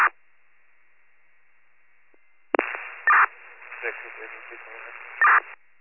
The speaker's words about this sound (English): Flashing, that's all static.